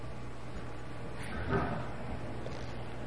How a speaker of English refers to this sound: What is that sound? I think it was somebody closing a door. Not the door, not our door, but a door down the hall.